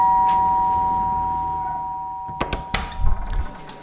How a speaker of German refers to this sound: Wir waren unterwegs für euch. Neulich in der Oberbaumstraße. Heute klingeln wir beim fetten Mann.